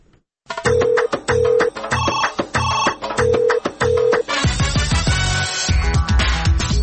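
The Radio Azadi answering-machine telephone rings in a quick series of repeated electronic bursts, loud, then gives way to a swell of music with no voices.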